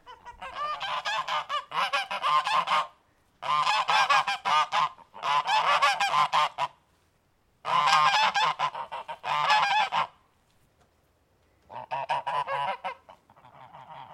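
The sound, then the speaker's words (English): Geese on a farm honk loudly in repeated bursts, several harsh calls overlapping in clusters with short pauses between, no talking. “Yeah, the geese here are just, I suppose, an additional part of the enterprise.”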